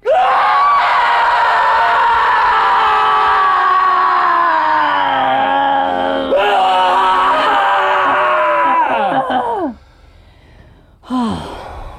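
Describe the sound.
Several voices deliberately groan loudly together after a count of three, in a long, sustained chorus that slides downward, fades after about nine seconds, then a brief final groan rises and drops.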